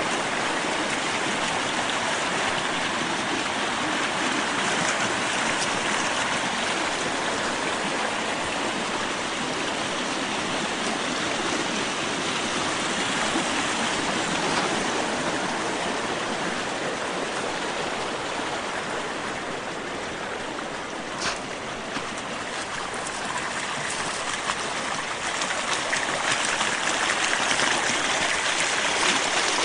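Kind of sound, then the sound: nature, creek babbling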